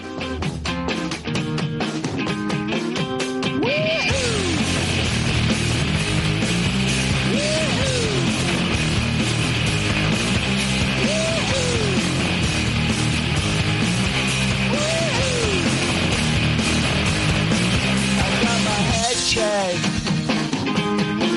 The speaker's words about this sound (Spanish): el exitazo de …, que arrancaba con un onomatopéyico grito de guerra